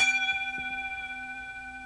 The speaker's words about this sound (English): Bell is just hit.